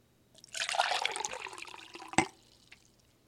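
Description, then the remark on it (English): Cold water pours steadily into a cup for about two seconds, a bright splashing trickle, ending with a sharp drip-like clink before fading to quiet. “To keep everything fair for this experiment, we're making sure I'm pouring it into the same cup every time here.”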